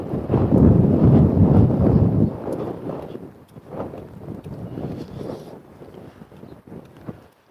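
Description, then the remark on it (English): Cold wind buffets and roars across a microphone with a wind guard, tucked under the bill of a cap while walking, loudest in the first two seconds, then easing into a lower, gusty rumble with occasional sharp pops and thumps. “It's whistling through my ears.”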